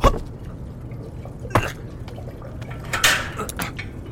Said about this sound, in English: I don't like that water feature, though. It smells like mouthwash.